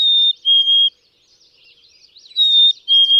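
A black-capped chickadee whistles its clear two-note song twice, each a pure high note followed by a slightly lower one, with faint soft twittering in the pause between.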